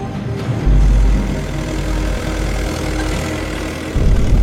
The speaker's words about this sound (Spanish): Pero uno de los vecinos rompe la solemnidad del acto. Lo que hizo fue montarse en su tractor y estar por el exterior, pues nada, pegando acelerones para hacer ruido y molestar lo más posible la ceremonia y a los asistentes.